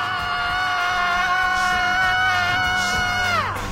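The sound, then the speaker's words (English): A group of voices lets out one long, loud, sustained scream together to release whatever they want to let out, holding steady for several seconds before the pitch slides down and trails off at the end. “And even if you don't think of anything, just have a good old scream anyway.”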